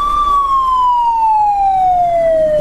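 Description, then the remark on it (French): A loud civil protection emergency alarm siren sounds at a national civil protection training and intervention unit as one continuous wailing tone that glides slowly downward in pitch, with a faint low rumble underneath and no voices. The alarm signals an ambulance call-out for a Covid-19 case. “Lorsque cette alarme retentit 3 fois de suite au niveau de l'unité nationale d'instruction et d'intervention de la protection civile”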